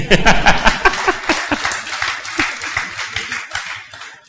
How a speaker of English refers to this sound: Public speech is scary, right? I'm nervous every Sunday. Do you notice? Will you please clap for me?